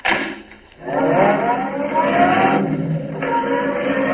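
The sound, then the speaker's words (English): A roadster's engine revs up, its whine climbing in pitch as the car pulls away, with a steady rumbling drone lasting several seconds and no voices. “Come on, get in the car.”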